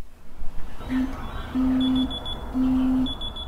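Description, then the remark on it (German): An alarm clock goes off with three steady electronic beeps, each roughly half a second long, fairly loud, with a thin higher tone above them and a low background rumble. “Tatsächlich nicht unbedingt vom Wecker, sondern von den vielen Vögeln und Tieren.”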